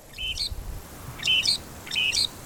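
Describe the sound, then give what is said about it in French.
Three short, scratchy calls of a bird that hunts from a perch and impales its prey on thorns, in a row, each a quick burst of high, buzzy chattering notes with a rising flick, separated by brief pauses over faint low background rumble. “C'est certainement car je chasse à l'affût. Et comme mes cousines, j'empale mes proies sur des épines.”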